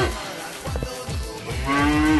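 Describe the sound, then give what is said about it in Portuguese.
A cow moos loudly, a long low bellow with harmonic stripes that swells and rises in pitch toward the end, with no talking over it. “Peraí, que eu vou soltar a vaca pra ela.”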